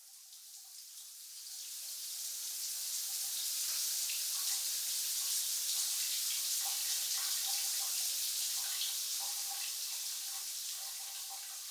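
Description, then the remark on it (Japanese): A shower runs steadily for several seconds, rinsing off soap foam: a continuous bright hiss of spraying water with faint splashing underneath, no voices. “では泡々をシャワーで洗い流していきますね。”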